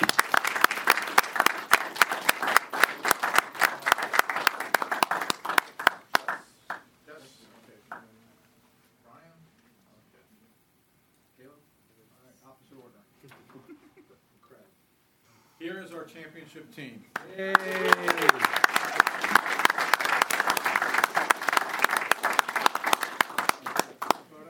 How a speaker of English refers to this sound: So if you guys can come on and join us and give them a round of applause.